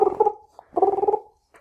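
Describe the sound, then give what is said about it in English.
A voice mimics a British phone ring, the phone of Zuck being called: two warbling, buzzy bursts about half a second each, separated by a short pause, with a faint breath or click at the end. “He's got a British phone, so it makes that noise.”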